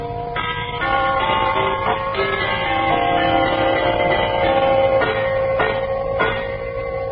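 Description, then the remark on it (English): Brass door chimes ring out in a sequence of bright, overlapping tones, each strike blending into a sustained shimmering ring for several seconds. Clear, with no voices. “And write on your postcard, awesomely low-priced door chimes.”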